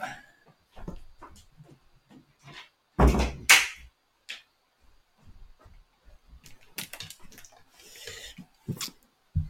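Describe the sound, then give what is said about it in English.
A door swings shut with one solid, heavy thud, surrounded by scattered small clicks, knocks and shuffling movements before and after. “And let me shut the door because I can still hear them chittering in the background.”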